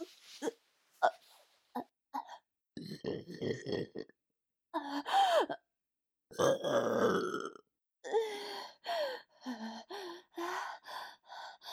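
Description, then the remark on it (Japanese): A run of loud burps, some short and clipped, others long and croaky, separated by brief gasping breaths with no talking. “ゲップも、出る。”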